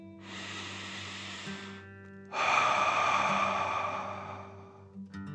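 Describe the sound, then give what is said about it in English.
A slow, deep relaxation breath: inhale through the nose filling up the belly, followed by a longer, forceful exhale through the mouth, breathy over a soft steady hum, with no talking. “Breathe in through your nose, filling up your belly, and then out through your mouth, imagining you're breathing fire.”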